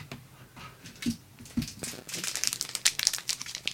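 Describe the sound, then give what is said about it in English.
Crinkly wrapper noise as a Dairy Milk chocolate bar is opened: a couple of soft rustles, then a denser run of sharp, bright crackling that grows busier and louder toward the end, with no voices. “And then if we get the dairy milk bar and we open it up.”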